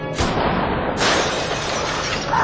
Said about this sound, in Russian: Стекло где-то разбивается.